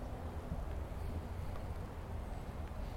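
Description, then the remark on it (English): A small, light, one-person plane drones overhead, a steady low engine rumble that holds constant throughout without fading, with a faint windy hiss above it and no voices. “It is a small, light, one-person plane.”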